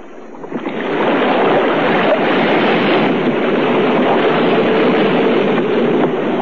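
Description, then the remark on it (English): A small rowboat is pushed off and steered toward the passage into the open sea, a dense, steady rush of sea and splashing swelling up after a softer first second and holding loud throughout, with no voices. “They steered for the passage into the open sea.”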